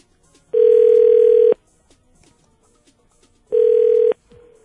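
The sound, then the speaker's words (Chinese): A telephone calling tone while calling a mobile phone: two long, steady electronic beeps separated by about two seconds of near silence, with a third beep just starting as it ends. Clear, with no talking. “我们就来打给他吧。我们是有他手机还加一电话？都有吗？那先打手机嘛，对不对？”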